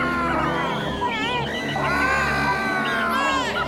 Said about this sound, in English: You have any more screams for us?